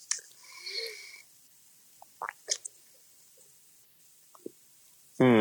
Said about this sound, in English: Now I'm sipping